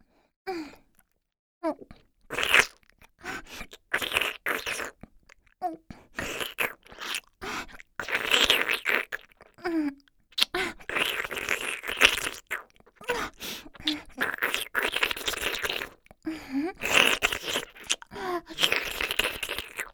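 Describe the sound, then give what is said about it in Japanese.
Wet slurping and sucking mouth noises, fairly loud, made by sucking in with the mouth while moving the tongue, as in slurping food. They come in uneven bursts for about twenty seconds, with brief pauses and soft breaths between them. No one speaks. “ジュルジュルって口で吸い込む感じで、食べ物をすするのに舌の動きを加える感じでしょうか？”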